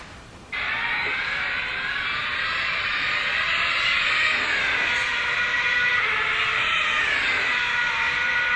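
Alonso's car races past, heard from outside the car, with a loud, high, buzzing engine tone that starts abruptly and holds for several seconds, its pitch rising as it approaches and then sinking lower as it moves away.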